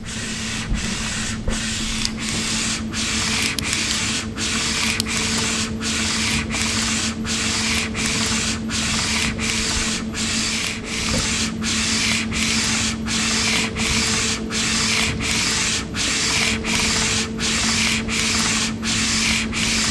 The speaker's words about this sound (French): parce que c'est une imprimante jet d'encre, donc ça projette de l'encre. Si on se met loin, ça nous fait un spray.